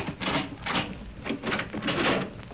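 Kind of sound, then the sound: household object, door being unlocked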